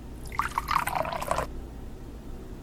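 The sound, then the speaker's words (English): Wine pours into a glass, a gurgling, bubbly trickle lasting about a second before cutting off, leaving only a quiet hum. “Have a seat on the couch. I'll pour the glasses and join you.”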